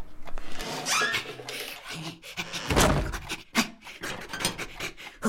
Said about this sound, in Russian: Запыхался, папа, пока туда-сюда бегал.